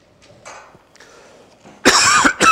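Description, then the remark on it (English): Quiet rustling and a soft throat-clearing build into two loud, harsh coughs from a speaker giving a sermon, the second a short burst right after the first. “I'm sorry. I should have brought some cough drops or something.”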